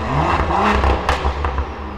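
A tuned car engine rumbles steadily, its deep low drone broken by sharp crackles and pops from the exhaust scattered throughout.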